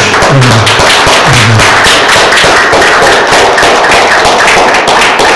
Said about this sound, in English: And actually, I want to pause. Can we just like give a round of applause for moms?